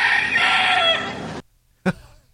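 A rooster crows loudly, one long drawn-out call lasting over a second, followed by a brief pause and a short sharp cluck or squawk.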